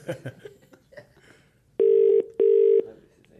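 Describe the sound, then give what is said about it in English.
A phone call ringing out on the line: one double burst of steady ringback tone, loud, following a moment of murmured voices and light laughter. “Well, where are we ringing him from?”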